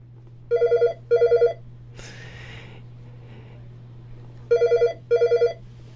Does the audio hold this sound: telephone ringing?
yes